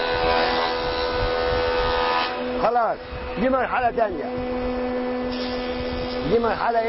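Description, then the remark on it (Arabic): A wood planer roars steadily with a whining hum as a piece of wood is fed through it to plane its surface smooth, its cutting noise easing partway through while the motor keeps running. A man speaks briefly over the machine. “بص يا سيدي، خلصنا من المرحلة اللي هنا بتاعت الربو، نخش على المرحلة بتاعت التخانة.”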